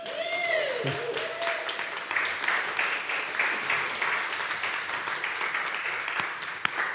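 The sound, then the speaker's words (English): A church audience applauds steadily for several seconds as a man walks slowly up to the front, dense overlapping claps forming a continuous wash of sound, with a brief rising whistle near the start and faint voices mixed in. “He's walking slower so he can get more claps.”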